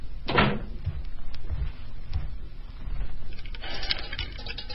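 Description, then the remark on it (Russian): A door is shut firmly with one solid thud near the start, followed by low, muffled room noise and faint shuffling movement. “Закройте дверь плотнее.”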